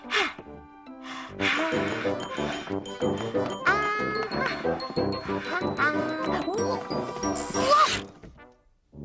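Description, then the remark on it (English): Gumboot shuffle dancing: a steady run of loud stomps and clattering thwacks for about eight seconds, mixed with bright pitched tones and squeaky sliding sounds, then a sudden stop. “Well, that was the gumboot shuffle.”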